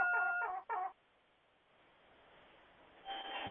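Chickens cluck in two quick, fairly loud bursts, fall quiet over a low hiss, then start clucking again at the very end.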